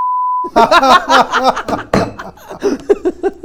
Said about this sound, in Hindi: ऐसा है मतलब मैं बीप कर दूंगा